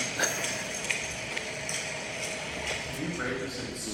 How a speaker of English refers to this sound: It's just the reverberant tones, especially that I noticed from like the footsteps, just brought like swampy and also like jail-y type. It was like, I couldn't tell if it was like outdoor or indoor